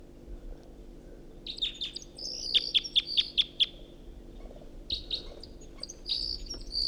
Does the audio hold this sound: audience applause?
no